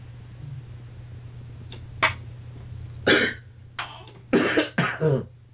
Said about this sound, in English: Pray right now for Prophetess and her cough.